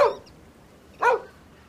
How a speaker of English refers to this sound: Look at the pets. A dog.